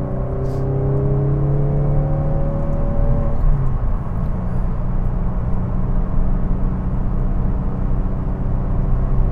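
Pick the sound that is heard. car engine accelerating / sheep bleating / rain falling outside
car engine accelerating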